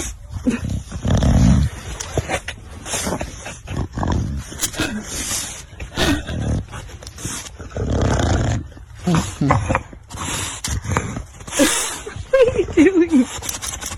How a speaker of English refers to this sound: This is a bulldog. This is the snow is stacked up on either side of a sidewalk. Pretty good snow, probably 18 inches on each side. And the bulldog just keeps running his face and plowing his head into the snow.